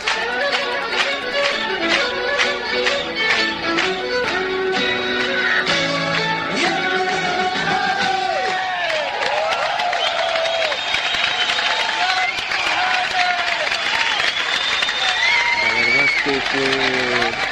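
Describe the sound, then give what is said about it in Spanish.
A live mono concert recording made at the Sala Cormorán concert hall (now called Mirror): a full band plays continuously with a prominent singing voice and sustained melodic lines, while audience noise murmurs faintly underneath throughout. “Y esto que escucháis es el sonido en directo.”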